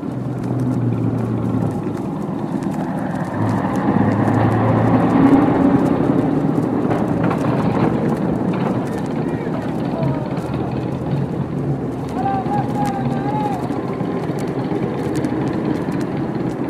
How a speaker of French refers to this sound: le ronflement soudain d'un moteur donne le signal. D'autres moteurs répondent à l'appel